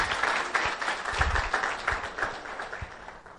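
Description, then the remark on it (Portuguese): A crowd applauds steadily at a municipal swearing-in ceremony as an official signs the term of commitment and inauguration, many hands clapping in a dense, continuous patter with a few sharper claps standing out, sustained throughout at a fairly even level. “Uma salva de palmas.”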